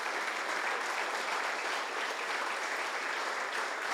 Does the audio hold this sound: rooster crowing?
no